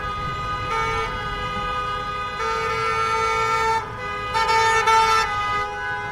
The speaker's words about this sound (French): Donc voilà, il y a quand même quelques voitures qui passent, des gens qui klaxonnent. Le trafic s'est un peu épaissi devant le Capitole.